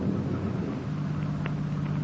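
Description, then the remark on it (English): A steady low engine rumble from a car coming up the road in Elysian Park around 5 a.m., a droning hum beneath broad windy, rain-like noise as rain, wind and thunder set in, with no one talking. “The car's coming up the road toward us, sounds like.”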